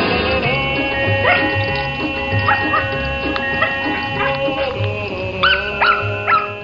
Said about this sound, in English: Dogs versus sprinklers. The phrase, the dog days of summer, takes on a new meaning in this playful montage of clips that shows pups beating the heat by playing with sprinklers.